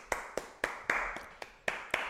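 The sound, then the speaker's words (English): A man claps loudly, sharp hand claps ringing out in a steady rhythm, about eight in two seconds, each crisp smack trailing off briefly; a couple in the middle land softer. No voices accompany them. “Yeah, he's a loud clapper.”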